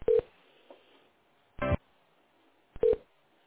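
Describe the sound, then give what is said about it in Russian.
A few short electronic tone bursts crackle over a narrow telephone line, irregularly spaced with a quiet hiss between them, as an operator transfers the call to a support line. No one speaks. “Я вас соединяю.”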